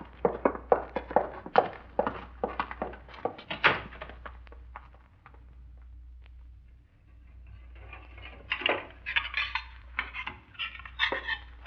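Dishes and cutlery clink and clatter in quick, uneven bursts over a low steady hum, pausing briefly in the middle before the rattling of plates and silverware picks up again.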